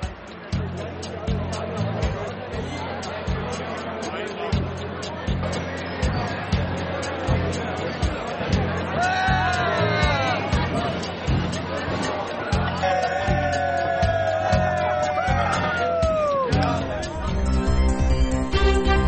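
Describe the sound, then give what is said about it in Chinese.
Dense crowd babble fills the world's largest beer festival, with a steady thumping band beat underneath and occasional loud voices whooping and singing above the din. “节目最后呢，我们带您去看看这场世界最大的啤酒节。”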